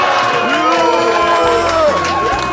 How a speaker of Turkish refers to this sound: Evet, yuhalamak ister misiniz? Efekt var bende. Var mı?